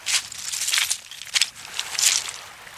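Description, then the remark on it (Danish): Crunching footsteps on loose stones by the water on a still, windless day, about four slow, uneven steps with gritty, hissy texture and a soft rattle between them; no voices. “Du går i stenene.”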